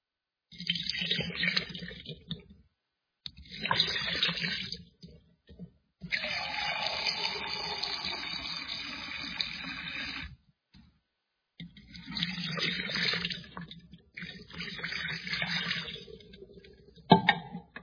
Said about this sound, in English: You hold the hand this way, so that everything is exposed. Your hand is totally exposed to the water. And you pour it twice.